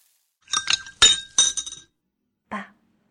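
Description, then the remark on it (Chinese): Glasses clink together in a toast to a father on his 60th birthday: a quick cluster of bright, ringing taps with a sustained glassy tone, then a short pause and one final softer clink. “爸，今天是您60岁大寿，我敬您一杯，祝您福如东海，寿比南山。”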